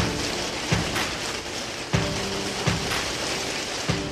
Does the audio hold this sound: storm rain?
yes